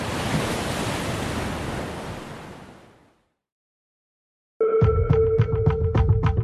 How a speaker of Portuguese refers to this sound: E a gente estava lá, ainda no escuro, cada um conversando com a ilha do seu jeito, totalmente alienados, olhando as ondas batendo violentamente nas pedras.